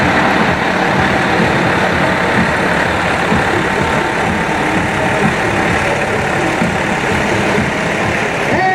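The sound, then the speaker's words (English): A large fire truck, acquired in 2010 through a federal grant and serving Arroyo Grande, Grover Beach and Oceano, rumbles by in a parade, its heavy engine droning loudly and steadily for several seconds amid dense outdoor street noise. “This proved that starting out as a volunteer fireman can lead to driving that big truck.”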